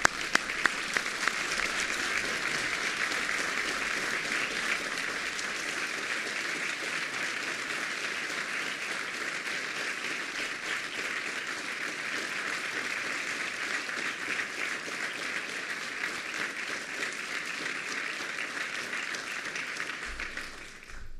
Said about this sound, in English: Let's give both families a big round of applause for Anthony and for Henry.